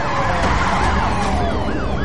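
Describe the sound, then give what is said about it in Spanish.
Police sirens wail loudly and continuously as police cars stop under a bridge, several overlapping rising-and-falling tones sweeping over a low rumble of vehicles. “Debajo del puente, los policías detienen sus coches.”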